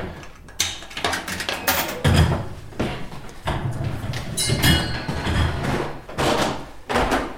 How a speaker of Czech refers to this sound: No a my se vydáme nahoru. Tak a jdeme na rozhlednu. Vstup na rozhlednu je přes turniket.